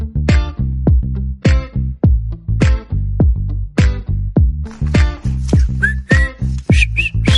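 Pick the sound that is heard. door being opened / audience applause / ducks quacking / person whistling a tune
person whistling a tune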